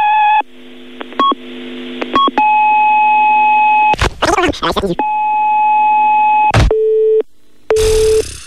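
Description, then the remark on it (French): Electronic telephone tones and answering machine beeps from the answering machine of Casting Loving You: steady sustained tones broken by short chirps and noisy bursts, then a brief, clear beep before a final burst of static-like sound. “Nous sommes absents pour le moment, alors veuillez nous laisser un message après le bip et nous vous rappellerons.”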